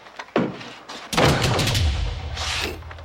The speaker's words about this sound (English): He locks the door.